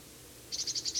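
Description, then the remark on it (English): A bird giving a type 3 call from the very top of a pine, its call note repeated about six times in quick, even succession, high-pitched and fairly faint, starting halfway through over a quiet low rumble, with no one speaking. “Can't quite see this bird. It's giving a type 3 call.”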